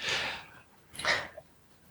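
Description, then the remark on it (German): Two breathy bursts of air into a microphone, a longer rushing exhale followed by a shorter sharp one about a second later, noisy and fairly loud with no speech. “Ich habe einen Atmen gehört,”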